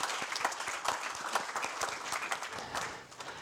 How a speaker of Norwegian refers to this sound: Så tusen takk til dere. Vi koster på en klapp, vi gjør det også.